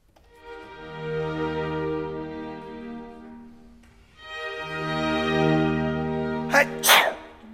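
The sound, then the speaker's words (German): A long, drawn-out voiced wind-up, held twice, then two sharp sneezes in quick succession near the end, loud; the person sneezing has a cold and keeps sneezing. “der traut sich nicht auf die Bühne, weil der ist erkältet. Oh. Und der muss dauernd niesen.”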